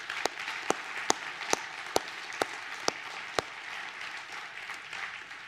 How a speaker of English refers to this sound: Let's give a round of applause for how God has used these men.